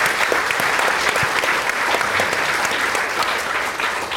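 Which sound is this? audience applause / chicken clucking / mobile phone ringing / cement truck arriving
audience applause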